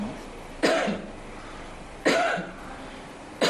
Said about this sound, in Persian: سرفه های طبیعی یا اجباری در مقابل میکروفون، شیوه ارزان اما یک نمونه با کیفیت بالا و میکروفونی که به تلفن هوشمند وصل شده است.